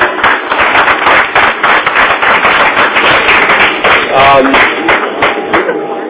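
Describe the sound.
Sustained applause from an audience, a dense, steady crackle of many hands clapping for about six seconds, with a few louder individual claps and a faint voice or two underneath.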